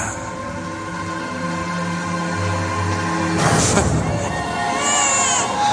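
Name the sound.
baby crying loudly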